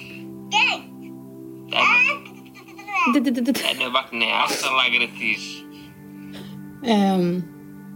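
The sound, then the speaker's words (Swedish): A baby babbles and coos in short, high-pitched bursts with a few squealing, giggly sounds, separated by brief pauses over a faint steady hum. “Alltså det var bebisen.”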